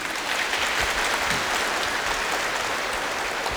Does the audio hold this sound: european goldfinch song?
no